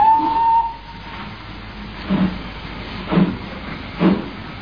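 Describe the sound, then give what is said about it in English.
A steam train whistle sounds briefly at the start, followed by rhythmic bursts of hissing, chuffing steam repeating about once a second over a steady rumbling background. “Well, here we are on the other train.”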